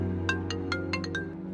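A mobile phone ringtone plays a quick series of bright, tonal chirps in a rhythmic pattern over a steady low hum, moderately loud.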